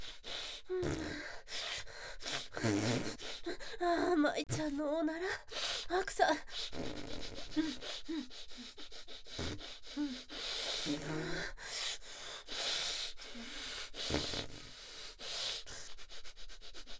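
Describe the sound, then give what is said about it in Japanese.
Loud, eager sniffing as a person sniffs another's fart, a rapid run of sharp breathy inhales repeating again and again, mixed with soft gasps and breathy vocal sounds throughout. “そんな必死にふがふがして。”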